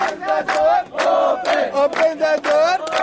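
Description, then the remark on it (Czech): A large crowd of refugees at a border gate chants loudly and in unison "Otvorite kapiju" (Open the gate), voices rising together in repeated rhythmic shouts with brief dips between phrases, sustained and forceful throughout. “Kao i dan ranije, uzvikuju "Otvorite kapiju".”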